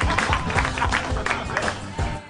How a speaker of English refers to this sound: Fuck you, guy that applauded.